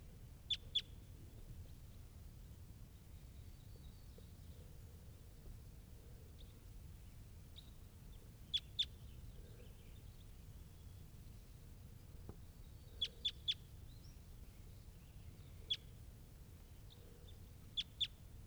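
Calls of a wild crossbill up in the top of a tree: short, sharp, high-pitched 'jip' notes in quick pairs and triplets, repeated every few seconds over a low, steady background hum with no voices.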